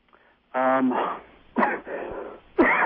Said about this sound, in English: I'm sorry, I've got bronchitis or something going on. But, me too. We just cough away.